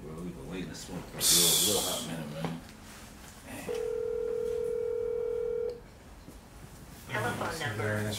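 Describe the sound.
A phone call to a friend rings out: one steady, two-second ringback tone, fairly loud and clear, with men talking casually before and after it and a brief breathy rush early on.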